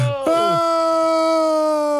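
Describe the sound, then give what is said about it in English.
A loud, sustained scream from one person starts abruptly and holds a steady, bright pitch for nearly two seconds without breaking, alone with no talking around it. “what's the scream into fade out?”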